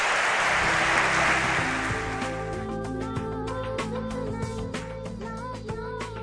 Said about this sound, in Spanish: Pide un aplauso para él mientras vamos cambiando.